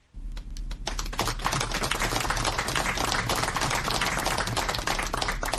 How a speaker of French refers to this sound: C'est une foule parmi laquelle deux ministres et les militants du RDPC parti au pouvoir qui applaudit l'arrivée de Maman Abakaï, maire de Lagdo, et 10 autres anciens otages à Yaoundé.